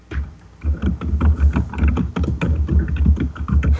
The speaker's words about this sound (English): And the pounding of the keys.